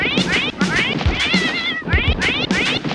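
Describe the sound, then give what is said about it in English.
A cat wrapped up inside a Christmas gift box meows insistently, about five or six loud, rising-and-falling cries in quick succession, with a few soft thumps underneath and no talking. “This fox is meowing. She wrapped up her damn cat.”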